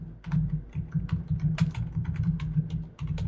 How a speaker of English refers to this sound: And then he just started typing as well.